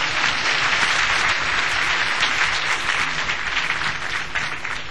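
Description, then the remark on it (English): An audience claps for Jesus Christ together in a steady, dense burst of applause that stays loud throughout, with no voices standing out above it. “Clap for Jesus Christ.”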